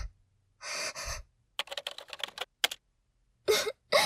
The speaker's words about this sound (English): Let me just type it in.